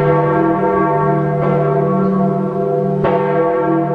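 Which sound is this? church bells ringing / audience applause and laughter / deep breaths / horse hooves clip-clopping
church bells ringing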